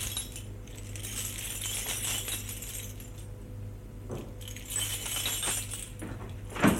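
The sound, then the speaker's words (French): A key rattles and scrapes in a door lock as the door is opened, producing irregular metallic clinks and jangles over a steady low hum, ending with a louder rattle. “Réveillé par un bruit dans la serrure, la porte s'ouvre.”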